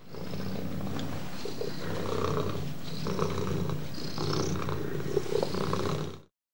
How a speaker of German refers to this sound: Und was machen Katzen noch, wenn es ihnen gut geht? Rrrr, sie schnurren.